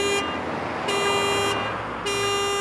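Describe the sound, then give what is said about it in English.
Busy city street car traffic rumbles steadily while a car horn blares in three long, loud honks, the harmonic blasts separated by short gaps. “Cars are the major source of noise pollution in cities.”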